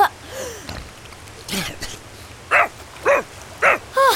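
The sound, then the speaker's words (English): A dog lets out four sharp, mid-pitched barks in a quick, even rhythm, preceded by a brief whine and a short noisy burst. “Doggo! Doggo! Where are you?”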